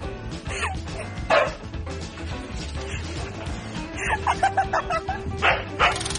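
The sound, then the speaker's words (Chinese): A husky deliberately barks at a cat in short, yelping bursts, a few spaced woofs early, then a quicker run of yips and whiny barks toward the end, over a steady low background rumble. “爱捣蛋的哈士奇快要把猫咪逼疯，每次故意对着猫咪吠叫，猫咪想静一静也不能。”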